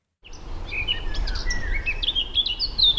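Birds chirp and trill repeatedly in a quiet forest in the Vogelsberg hills, about 50 km northeast of Frankfurt am Main, Germany, at about 600 metres altitude, where politician Janine Wissler hikes with a local group; bright calls over a soft steady low rumble, no one speaking.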